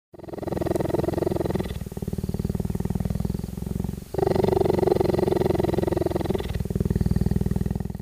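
cheetah purring

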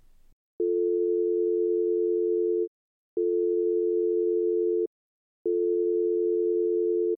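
telephone ringing

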